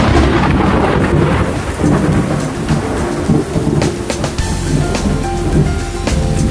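Loud, continuous rumbling thunder rolls over steady heavy rain, a dense wash of noise with deep low-end swells and brief crackling peaks, no voices.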